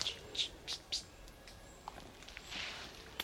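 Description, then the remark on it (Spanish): Soft, high-pitched peeps like a chick calling: four quick chirps in an even rhythm, then a longer, fainter cheep after a pause, over a low steady background hum. “Es como si fuera un pollito o un ave.”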